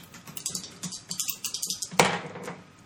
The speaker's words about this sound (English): So you spend one of your checkers. Okay, and then you roll two dice.